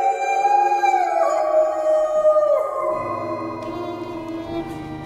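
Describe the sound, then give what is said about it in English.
Several wolves coming out of a forest howl together in long, sliding, overlapping cries that rise and fall, sustained and fairly loud throughout, with no talking. “And the wolves are coming out of the forest!”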